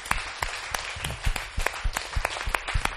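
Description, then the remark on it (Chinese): A church audience applauds the Lord Jesus Christ steadily, many hands clapping in a dense, crackling wash with a few sharper, louder claps standing out at an irregular rhythm throughout. “我们给我们的主耶稣基督一个很大的掌声，好吗？”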